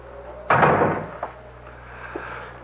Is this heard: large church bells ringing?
no